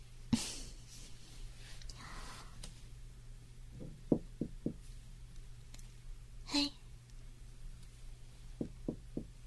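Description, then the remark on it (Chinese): Two sets of three sharp knocks rap on a hotel room door, fairly loud, separated by a few seconds of quiet breathing and soft rustling over a low steady hum. “我现在已经到了酒店门口了，我现在要敲门。”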